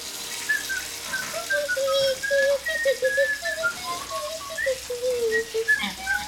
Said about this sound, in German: Ich mach das Wasser auf warm.